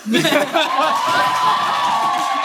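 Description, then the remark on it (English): A crowd erupts in cheering and whooping, an audience applauding to vote for a winner in a Wizarding World The Bachelor game, a steady wash of applause and shouts, with a sustained high whoop carrying over the noise after a few voices at the start. “Oh, we don't even need to do this, but to get audience participation, because I promised it, we're going to do a round of applause for who won.”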